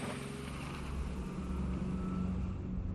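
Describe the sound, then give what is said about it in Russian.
A chauffeur-driven car's engine rumbles low and steady, its hum rising only slightly as the car slowly moves off, with no voices present. “Машина медленно тронулась.”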